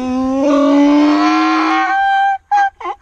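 A donkey brays loudly: one long, strained, rising call, then a few short choppy gasping bursts at the end. No one speaks.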